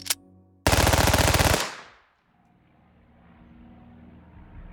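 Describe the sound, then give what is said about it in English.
A short click, then a loud, rapid burst of MAC-10 submachine gun fire lasting about a second, fading into a low engine-like drone. “But, you know, the MAC-10 became the symbol of the Medellin cartel.”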